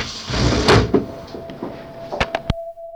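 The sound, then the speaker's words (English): A window is pushed open with a rough scraping, rattling slide, followed by three sharp knocks or latch clicks and a thin, steady squeal that lingers at the end. “Do you want to open the window?”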